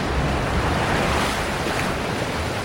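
Rough, churning water of a tidal surge flowing like a river roars steadily below a rocky headland at Deception Pass, at the north end of Whidbey Island, a dense rushing wash with gusty wind across the microphone and no voices.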